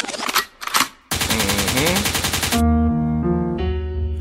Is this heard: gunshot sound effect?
yes